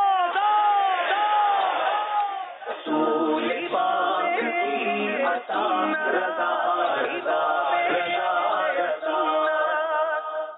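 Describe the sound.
A crowd chants loudly in unison, answering a slogan in repeated rhythmic bursts of many voices, with a lone voice leading at the start.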